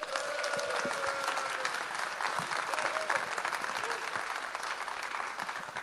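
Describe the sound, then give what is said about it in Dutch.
An audience claps steadily to welcome mayor Rick van der Linden onto the stage, a dense, sustained wash of applause that stays fairly even for several seconds, with a few faint tonal murmurs mixed in. “Dat hij dan even met applaus, hij of zij, door u wordt begroet.”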